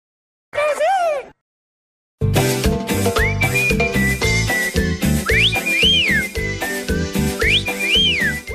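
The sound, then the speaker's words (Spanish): A human whistle repeats a short rising-and-falling call, like a signature family whistle, over loud rhythmic music with a steady beat. A brief vocal sound comes first, before the music starts. “Me enteré, paisanos, de que cada familia latina tiene un silbido, un chiflido que identifica a cada uno de nosotros.”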